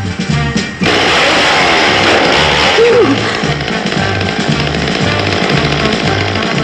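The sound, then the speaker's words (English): A real chainsaw roars to life after a brief start and runs loud, a harsh steady buzz with a rapid rhythmic chugging underneath, no voices. “I mean, she obviously was, because it's a real fucking chainsaw.”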